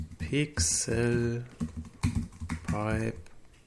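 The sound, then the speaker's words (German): A run of quick keyboard taps, someone typing a web address on a computer keyboard, mixed in with a person talking over the clicks. “Kaum tippt man es richtig, ist man auch schon drin.”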